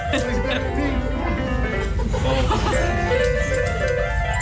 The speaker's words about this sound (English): we have a mini horse playing a mini piano. It goes around hospitals in the States entertaining patients. And this is what it sounds like. It plays by ear, but with its nose, sort of thing. Up and down the keyboard. It's brilliant.